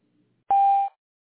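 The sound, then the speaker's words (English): A single loud, steady electronic beep lasting under half a second, the classic answering-machine tone of a medical office's voicemail line, cutting off cleanly into silence with no voices around it. “Please leave your name, telephone number, and a short message after the tone, and we'll be sure to return your phone call as soon as possible.”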